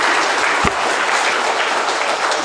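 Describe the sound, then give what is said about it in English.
A crowd at a project celebration event in North Dakota applauds steadily, a dense, even wash of many hands clapping at a fairly loud level, with one sharper clap standing out early on. “You can applaud for Shaden.”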